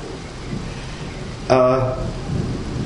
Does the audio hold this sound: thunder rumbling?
yes